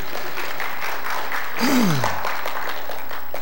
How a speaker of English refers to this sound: And you can applaud at any point in time if you want to.